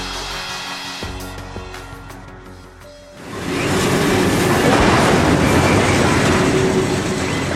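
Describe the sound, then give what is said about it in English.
A train headed north through Mexico, from the 2009 documentary Which Way Home, rumbles along railway tracks, starting quieter with faint clicking and rising after a few seconds into a loud, continuous roar of wheels and cars passing. “Sound of a train headed north there through Mexico from the 2009 documentary, Which Way Home?”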